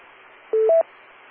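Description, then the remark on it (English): Two quick telephone keypad tones sound one right after the other as a work phone is called, the second slightly higher in pitch, standing out clearly over a faint, steady background hiss with no one speaking. “I've tried to call the work phone.”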